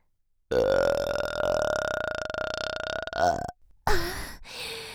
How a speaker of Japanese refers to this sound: 遠慮せず私のゲップ味わってくださいな。